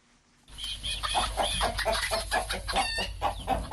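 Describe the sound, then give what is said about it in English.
A flock of chickens raised on a farm in Santa, on the outskirts of Bamenda in northwest Cameroon, clucking continuously, many overlapping calls with a steady background rumble, starting abruptly after a brief quiet moment. “raised chicken in Santa on the outskirts of Bamenda in northwest Cameroon.”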